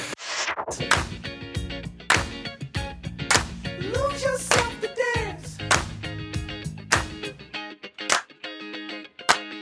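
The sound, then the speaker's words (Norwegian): A long series of 17 sharp hand claps, one more than the planned 16, some in quick bursts and others spaced out, cutting through a busy backdrop of music with sustained pitched tones and a sliding, melodic voice-like line. “Du klappet en for mye. Idiot, vi hadde planlagt at det var 16 klapp, ikke 17.”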